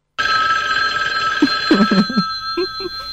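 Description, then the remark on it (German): A classic telephone bell rings loudly and continuously from start to finish, a bright metallic trill, with a few faint low thumps or murmurs beneath it toward the end. “Ein klassisches Telefonläuten.”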